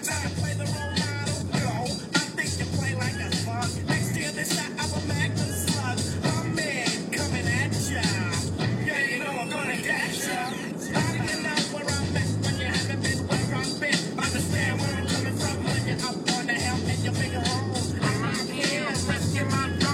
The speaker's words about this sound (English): These cars are driving poorly.